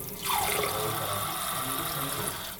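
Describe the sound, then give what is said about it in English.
Water streams steadily from a tap into a cup as two seniors fill their water cups before a laughter session, a continuous rushing hiss with a rising pitch as the vessel fills, no voices present. “They're filling up their water cups ahead of the session because they anticipate getting thirsty from all the laughter.”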